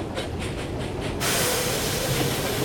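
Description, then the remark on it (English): A steam train chuffs in slow, even puffs, about five beats, moving at walking pace as it crosses a long, high iron bridge over the River Tay, before a loud, steady rush of hissing steam takes over. No one speaks. “Then, as the train puffs off over the long, high iron span,”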